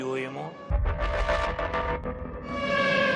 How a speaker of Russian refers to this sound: Вы сейчас слышите сирену? Да, я слышу сирену. И что нам делать? Ничего.